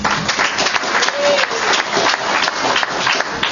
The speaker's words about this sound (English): And if you answer yes to this question, I want you to clap your hands. Question number 1. Does your chapter have a legislative chair?